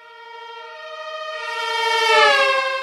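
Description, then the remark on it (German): A siren wails steadily with a rich stack of harmonics, swelling in loudness as it approaches and then dropping slightly in pitch as it passes, showing the Doppler shift. No one speaks. “der Effekt ist eigentlich ähnlich wie bei einem Auto mit eingeschalteten Martinshorn.”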